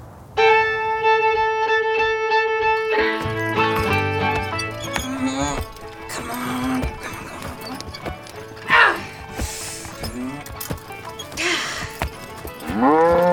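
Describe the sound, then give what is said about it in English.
A steady, buzzy harmonic tone opens, then a busy farmyard clatter follows, with hoof-like clip-clops and a cow named Bessie mooing in repeated rising and falling bellows. “Bessie, if you don't calm down, I'm going to be having cow for dinner.”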